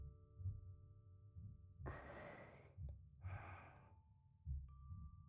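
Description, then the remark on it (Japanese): A slow, steady heartbeat thumps low, about once a second, while two long, soft breaths rise and fall over it. No one speaks. “ママもあなたの体温と鼓動を感じてますよ。”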